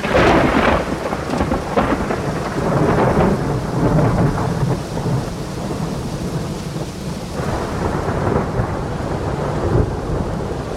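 A violent thunderstorm rages with heavy, continuous rain and deep rolling thunder rumbling throughout, loud, with no voices present.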